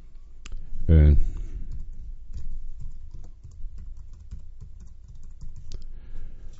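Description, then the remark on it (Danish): Rapid typing on a computer keyboard as someone writes another post, with a steady patter of crisp key clicks running throughout and a brief low voiced sound near the start. “Jeg skriver et indlæg mere her.”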